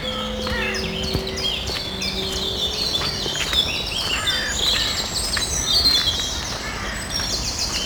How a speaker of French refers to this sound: il y a parfois beaucoup plus de sons d'oiseaux qu'ailleurs. Pourquoi ? Je n'en sais rien.